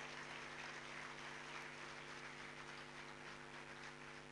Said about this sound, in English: Ladies and gentlemen, please welcome Lieutenant General Ramesh Halgali, sir, with a big round of applause.